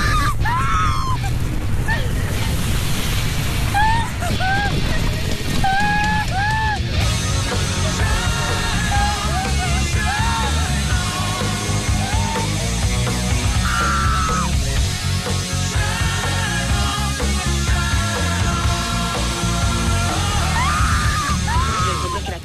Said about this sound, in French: c'est une fille qui est au volant de sa voiture. Elle pleure, elle crie, la vitre de sa voiture a été fracassée, elle a de la vitre sur elle. Tu vois les arbres à côté qui sont en train de s'envoler, les objets qui volent partout.